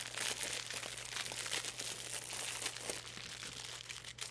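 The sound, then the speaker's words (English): Continuous crinkly crackling of a fortune cookie being broken open and its wrapper crumpled, with dense bursts of sharp snaps and rustles, fairly loud throughout, over a steady low hum; no talking. “Make sure you get it in the mic. Yeah, get that crackle.”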